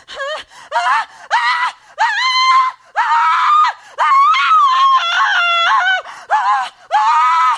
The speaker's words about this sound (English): What inspired you? Because there's like 15 more seconds of that. What inspired you to do that? The instructions were scream, so I screamed.